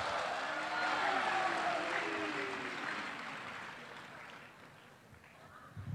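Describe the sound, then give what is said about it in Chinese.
Sustained audience applause welcoming crosstalk (xiangsheng) performers He Yunwei and Li Jing for the piece Dui Chunlian, a dense wash of clapping that starts strong and gradually tapers off over several seconds, with faint voices mixed underneath and a brief rise at the very end. “好，掌声有请。”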